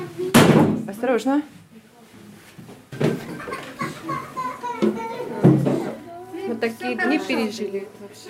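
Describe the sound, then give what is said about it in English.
A heavy wooden trap door in a hotel floor thuds shut near the start in a loud slam as people climb down into the basement during air raid sirens, followed by a couple of softer bumps while children's voices chatter and talk throughout. “And everyone in the hotel moved toward a trap door in the floor and climbed down into the basement.”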